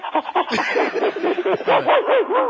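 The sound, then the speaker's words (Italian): A person imitates a dog's panting with quick, rhythmic voiced breaths, demonstrating the 'dog breathing' technique learned for childbirth preparation. A steady run of short huffing bursts turns slightly yelpy toward the end. “Ho già imparato a fare la respirazione canina.”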